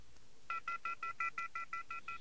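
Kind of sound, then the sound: signal or alarm, telephone touch-tone dialing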